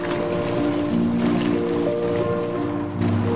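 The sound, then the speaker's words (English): Water bubbles and churns steadily in a tub, a continuous, fairly loud frothing with a low hum running underneath and no voices. “This is just a tub. But where are the bubbles coming from?”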